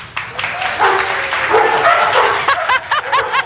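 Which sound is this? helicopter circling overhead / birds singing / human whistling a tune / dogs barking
dogs barking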